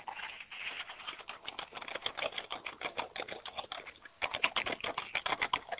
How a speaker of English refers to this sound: Hello. I hear you typing.